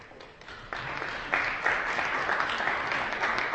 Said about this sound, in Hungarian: Sokkal tovább kell tapsolnotok, mert nagyon messziről jön.